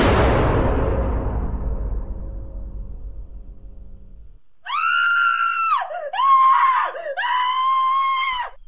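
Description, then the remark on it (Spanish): A single loud gunshot rings out inside a house, its boom trailing off over a few seconds, then after a brief silence a woman lets out a long, shrill scream that breaks and rises in pitch. “Me sacudo los zapatos en el felpudo y justo al abrir la puerta oigo un disparo dentro y un grito de mujer.”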